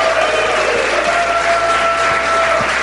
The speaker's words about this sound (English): And thank you to the audience. Give yourselves a round of applause, the most important part.